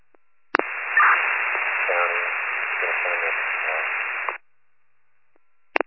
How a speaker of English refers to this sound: That transmission is all static.